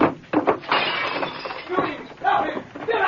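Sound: window glass breaking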